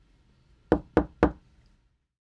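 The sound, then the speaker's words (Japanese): Three sharp, evenly spaced knocks on an apartment door, fairly loud, followed by silence with no voices. “こんにちは。早くドア開けて。”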